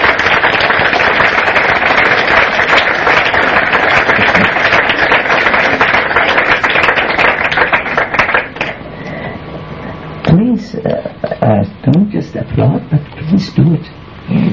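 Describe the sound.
An audience applauds in a dense, steady burst of clapping for several seconds, then the applause thins out and a man begins speaking.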